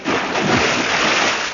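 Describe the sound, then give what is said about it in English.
Water splashes and sloshes steadily for a moment, a fairly loud, continuous wet rush with no voices over it. “Is that real water?”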